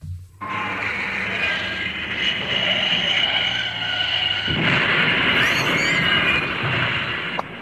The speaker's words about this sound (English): Pearson sprints out of the bistro and straight across the high street, straight into the path of an oncoming tractor. Shall see if I've got that sound effect.